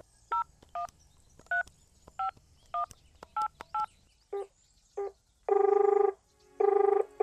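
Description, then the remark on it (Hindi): A local number is dialed on a mobile phone, keyed in as about ten quick, evenly spaced dual-tone beeps, then two long, steady ringing tones follow. No one speaks. “यार तेरे फोन से कॉल कर लूँ?”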